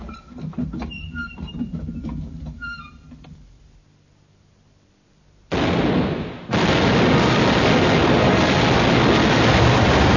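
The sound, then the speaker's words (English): Ship's cannon fire: a clatter of sharp cracks and bangs, then a brief lull before a sudden loud blast swells into a heavy, sustained roar that rumbles on to the end. “Hey, bring up more shot, bearer men. Aye, gun captains! Aye, run up, train, and fire as you get the aim.”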